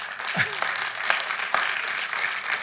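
A crowd breaks into applause during a sermon, a dense, steady patter of many hands clapping at moderate volume, with a few sharper claps standing out and faint voices mixed in.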